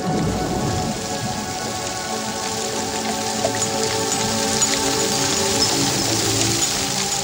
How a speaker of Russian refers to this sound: Вода из источника будущего тоже поднялась вверх к солнцу, превратилась в тучи, и из них пошел благодатный дождь.